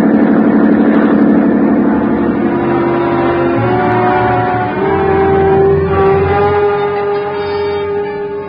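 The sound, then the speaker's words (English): A police motorboat engine roars loudly and steadily at speed, its droning hum holding a constant tone that shifts slightly in pitch partway through, with no voices. “a schooner with auxiliary power is matched against a police boat”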